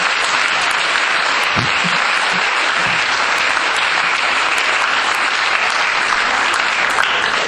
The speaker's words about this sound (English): Please give Professor Finn a round of applause.